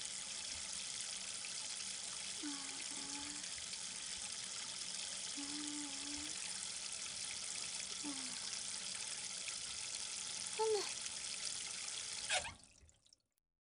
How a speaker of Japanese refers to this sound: 泡と汚れをよーく洗い流すとしよう。